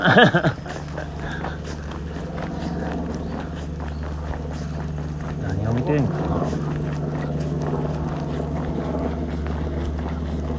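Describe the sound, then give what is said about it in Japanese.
A helicopter drones steadily overhead, a low, continuous rumbling hum with gusty wind noise, swelling slightly around the middle before settling back to an even drone. “前な、何のヘリなのな。”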